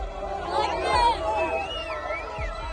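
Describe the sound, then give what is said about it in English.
Crowds of Palestinians cheer in the street in Rafah, southern Gaza Strip, at news that Hamas accepted ceasefire terms, many voices merging into a steady, lively roar, with a few high whistles sliding up and down above the din. The noise stays fairly even throughout, swelling slightly near the middle. “In the city of Rafah, in the southern part of the strip, crowds of Palestinians cheered.”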